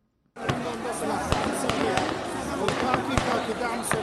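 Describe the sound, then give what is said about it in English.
Gunfire cracks out in a rapid, irregular series of sharp bangs over a dense roar of crowd noise and shouting voices, continuing steadily throughout. Armed men in uniform fire into the air and at protesters at a mass sit-in in Khartoum, Sudan, on a Monday night. “Gunfire in the heart of Sudan's capital, Khartoum.”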